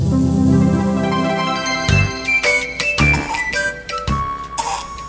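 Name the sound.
child coughing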